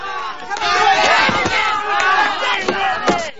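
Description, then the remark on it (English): A ship's crew of men shouting and calling out together in overlapping, excited voices while playing a game of cricket in the sunshine, with a few sharp knocks cutting through the steady babble of yells. “The crew are playing a game of cricket in the sunshine.”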